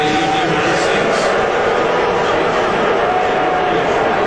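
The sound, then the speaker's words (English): A large crowd of mostly government people booing and jeering the president in a steady, loud wash of mixed voices that holds for several seconds with no clear break, the boos blending into general crowd roar. “So that's why the president probably got booed.”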